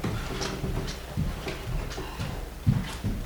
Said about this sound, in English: To our session here, I'm going to close this door.